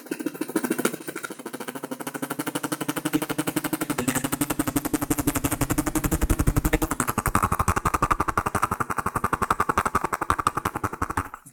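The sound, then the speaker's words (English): A voice imitates a helicopter coming in off the horizon as a sound effect, with a rapid, steady chopping pulse that swells louder partway through, a continuous mouth-made whirr with no other talk. “If you've got the skills to do sound effects like I have, if you can't think of what you're going to talk about next, you can just do some helicopter coming in off the horizon.”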